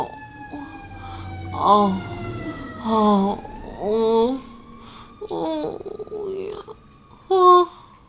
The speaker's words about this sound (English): Sorry about the sirens.